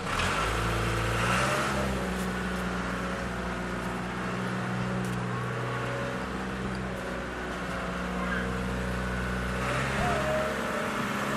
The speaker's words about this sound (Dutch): Ja, zo vertrekt de Spoeiers Garage met... Ja, met een trekker met allemaal aanhangers, met lichtbaren.